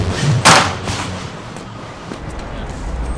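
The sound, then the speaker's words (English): A satchel slams against a wall on a train station platform with one loud, dull thud, followed a moment later by a softer second knock, over a steady wash of background noise. “He darts around the platform, sees that both women are gone, and slams the satchel against the wall in frustration.”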